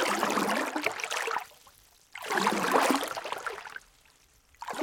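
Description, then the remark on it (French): Oars splashing through lake water in a steady rowing rhythm as a rowing boat is calmly rowed on a lake in the afternoon, two long sloshing strokes separated by quiet pauses, with a third beginning at the end; moderately loud, no voices. “J'aime le bruit des rames dans l'eau.”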